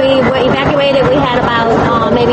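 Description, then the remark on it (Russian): A rescue boat motor drones steadily and loudly during a flood evacuation near the Bogue Chitto River, a constant rumbling engine noise with a woman's voice talking faintly over it. “голос которой едва слышен из-за мотора спасательной лодки.”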